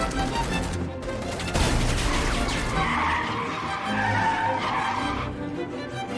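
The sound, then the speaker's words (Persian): A car brakes hard, tires squealing loudly in a long skid amid rumbling engine noise before it screeches to a stop. No voices are heard. “ماشین رو نگه دار. چرخش رو بزنین.”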